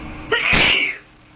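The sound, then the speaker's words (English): A single loud sneeze from someone with a cold: a quick sharp intake followed by a bursting, breathy expulsion that trails off into quiet within about a second. “I'm going to force myself not to sneeze.”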